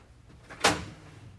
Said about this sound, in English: I think you've got someone at the door.